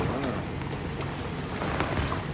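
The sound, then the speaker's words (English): A kayak glides across still fjord water surrounded by mountainous terrain and waterfalls, with a steady wash of wind and water noise and a few soft paddle splashes, no talking. “We're just kayaking through the fjords, and it is beautiful.”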